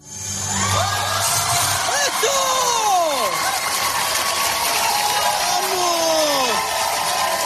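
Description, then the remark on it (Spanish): A large audience at a juggling performance cheers and applauds loudly and continuously, with rising and falling whoops and shouts soaring above a dense wash of clapping, no single voice standing out. “Es verdad que los gritos y los aplausos del público lo dicen todo.”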